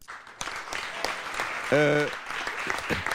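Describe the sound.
An audience claps steadily in a dense, crackling wash of applause, with a brief voiced cry or cheer rising above it midway.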